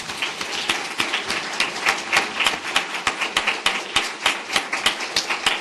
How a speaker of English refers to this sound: I think they deserve a huge round of applause for this.